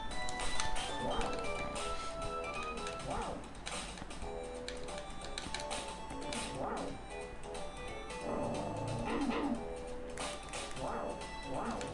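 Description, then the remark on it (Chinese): A dog barks in short, spaced bursts, about five or six over several seconds, with thin whimpering mixed in, against a dense, steady background of clatter and noise. “杀狗啊，冇得玩啊，迟啲。”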